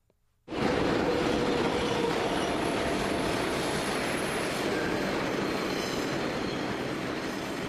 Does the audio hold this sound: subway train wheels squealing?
yes